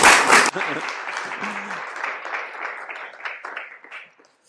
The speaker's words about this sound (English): Amen. Amen. Go on, another round of applause, Lord.